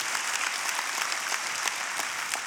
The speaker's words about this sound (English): As we start, oh, patty cake, if you're gonna clap for that, put your hands together and clap for that.